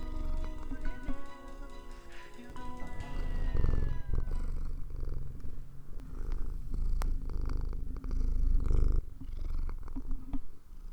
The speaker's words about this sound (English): I'm laughing because I record at home, so right now I'm just sitting at my desk, and my cat's favorite thing to do is just rub his entire face on the mic. So let's see if we can get some, like, good cat noises right now.